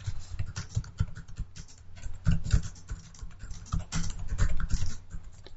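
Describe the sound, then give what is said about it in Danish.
Rapid, uneven clatter of keys as a new question is typed on a computer keyboard, moderately loud, with short bursts and brief pauses throughout, no voices. “Klikker på opret nyt, og vi skal give spørgsmål, eller stille spørgsmålet, og det er nogle gange svært at finde på nogle ting, når det bare skal demonstreres, men man kan jo skrive her.”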